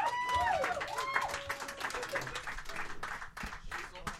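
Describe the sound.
A crowd at a live show applauds the guest on stage with dense, steady clapping, mixed with whistles and cheering voices rising above the noise, the ovation holding strong throughout before thinning slightly toward the end.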